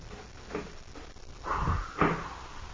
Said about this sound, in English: and then close the door again.